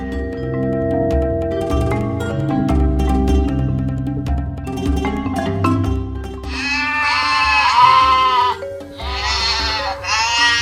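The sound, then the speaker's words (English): A goat bleats twice, loud, with long quavering cries following a stretch of background music that continues softly underneath. “Said the goat, "Want to jump on the rocks?"”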